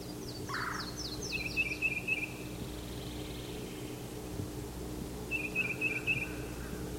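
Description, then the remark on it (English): A yellow-throated warbler sings a quick descending series of clear, sweet notes, with a short twittering trill from another bird twice, over a steady low background rumble. “There's the yellow-throated warbler.”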